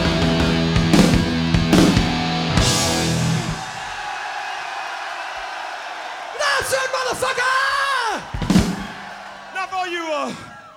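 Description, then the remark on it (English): A concert crowd screams and yells together on cue, a loud sustained roar with individual whoops and bellowing shouts rising above it, first in a burst and then in rising cheers toward the end. “And this time I want you to really fucking scream so they can pick it up in the studio upstairs.”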